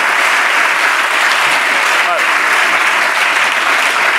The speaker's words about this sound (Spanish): Un aplauso para Alejo Sauras, que vale.